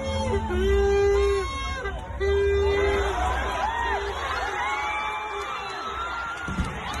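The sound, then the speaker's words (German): A large crowd of demonstrators at an anti-racism demonstration in Bristol cheers and shouts, with sustained whistles and whoops rising over a dense babble of voices; the noise stays loud throughout, with a brief thud near the end as a statue, thrown from its plinth by the demonstrators, falls. “Da konnte man es hören, einen kleinen Klong. Ja, die Statue ist also umgefallen und dann wird dieses Ding weitergerollt, weitergezogen zum Hafen und dort dann großer Jubel.”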